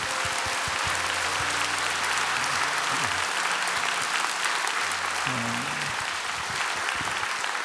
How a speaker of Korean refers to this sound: 우리 워시카이어가 굉장히 어려운 상황 가운데도 이렇게 또 귀한 부활 칸타타를 준비해 주셨습니다. 우리 워시카이어 챔버 그리고 모든 것 또 지휘해 주신 우리 강중현 성가사님께 우리 한번 격려의 박수 했으면 좋겠습니다.